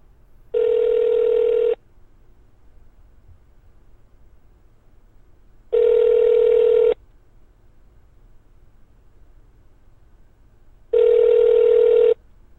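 telephone dialing and ringing

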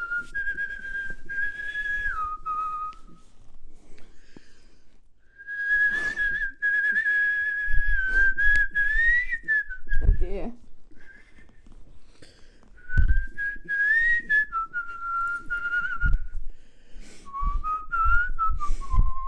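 person whistling a tune

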